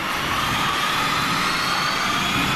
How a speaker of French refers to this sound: Oh, c'est, on dirait qu'on comprend pas c'est quoi. C'est une balayeuse. Oui, oui, c'est balayeuse.